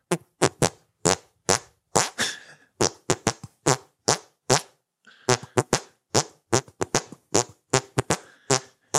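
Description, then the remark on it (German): A rapid series of squelchy hand farts pressed out in a steady rhythm, rising and falling in pitch like a simple tune, loud with no talking. “hey, guck mal, ich kann mit meinen Händen furzen.”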